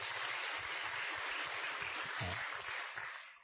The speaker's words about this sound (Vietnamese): Chúng ta cho một tràng pháo tay khích lệ ông.